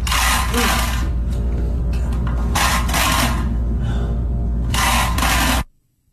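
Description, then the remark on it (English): A steady, loud mechanical rumble, like a small engine being pull-started, with three surging, hissy bursts roughly every two seconds before it cuts off abruptly, as a man yanks the plug of an iron as if pull-starting a chainsaw or lawnmower. “He's trying to pull the, you know, the plug on an iron, but he's pulling it like you would start up a chainsaw or a lawnmower.”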